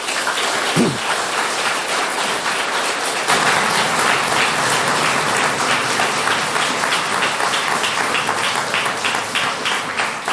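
A crowd applauds steadily, a dense wash of many hands clapping at an even, fairly loud level for the whole stretch, swelling slightly after the first few seconds. No one speaks.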